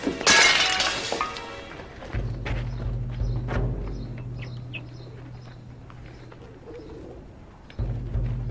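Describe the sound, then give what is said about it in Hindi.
A clay water pot smashes with a loud, bright crash and scattering shards in the first second, followed by a low steady hum and faint bird coos. “पानी का मटका टूटने की आवाज थी।”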